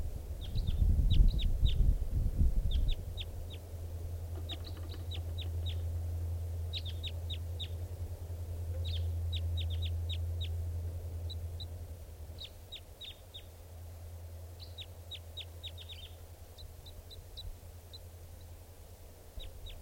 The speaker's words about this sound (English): Here's that bird again. It sounds like it's in song.